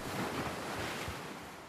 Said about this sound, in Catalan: El vent bufa i mou l'aigua del mar. L'aigua forma onades que viatgen fins a la sorra.